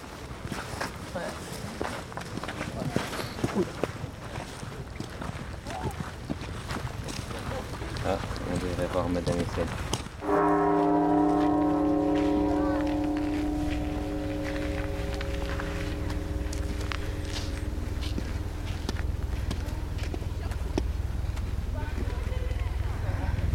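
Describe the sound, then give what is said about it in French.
Footsteps and outdoor ambience, then a single loud bell strike that rings out with a rich, sustained tone, slowly decaying over more than ten seconds. “Alors si j'ai de la chance, j'ai entendu le bruit de la cloche.”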